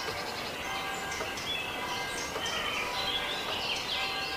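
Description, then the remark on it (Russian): Several birds call and chirp in quick, overlapping bursts above a steady wash of outdoor background noise, moderately loud and continuous, with no one speaking. “Направьте внимание на звук криков птиц.”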